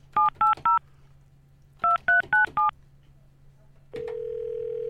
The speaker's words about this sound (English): Let me call Michelle. Hey, could somebody figure out Michelle's number from those tones?